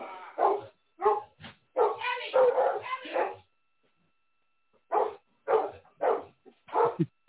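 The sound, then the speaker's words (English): A registered service dog barks repeatedly in two bursts: a run of quick, yelping barks, a pause of about a second and a half, then four more evenly spaced barks. The barks are loud and sharp, with no talking. “Oh, I see the dog is really working, huh?”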